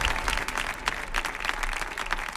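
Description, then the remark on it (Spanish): A crowd applauds steadily, the dense patter of many hands clapping at once, sustained for the whole moment with no voices standing out. “¡Fuerte el aplauso!”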